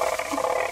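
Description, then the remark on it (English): A ratchet noisemaker spun in a quick, steady whirl, giving off a dense, rattling clatter that holds at an even loudness for under a second, with no voices. “A ratchet.”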